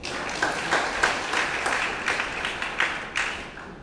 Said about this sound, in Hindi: कितने लोग सहमत हैं? ताली बजाओ फिर।